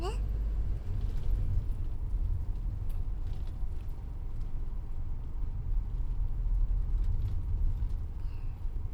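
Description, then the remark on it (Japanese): Steady, deep engine rumble and road noise from inside a moving bus nearing its stop, continuous and fairly loud throughout, with a faint rattle now and then. “バスが止まったら立とうね。”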